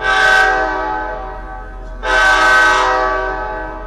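An Amtrak Hoosier State Line passenger train sounds two long, loud horn blasts as it arrives, more than an hour late, at the Indianapolis Amtrak station, the second blast starting right as the first fades, with a low rumble of the approaching train underneath.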